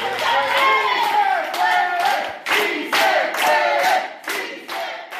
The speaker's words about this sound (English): About 100 immigrant activists and supporters from all over the country are shouting, "Yes, we can," in Spanish, at the Civic Center in downtown Silver Spring, Maryland. They gathered here 2 days after Trump's election to discuss next steps.